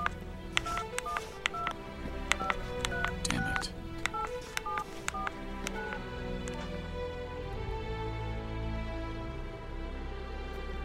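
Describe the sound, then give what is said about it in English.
A quick series of telephone keypad tones beeps out in an irregular rhythm over a low rumbling background, followed by a few muttered words and lingering noise. “Here's the phone, sir.”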